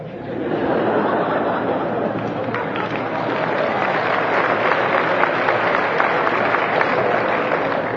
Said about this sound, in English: A lot of women were clapping. Less men.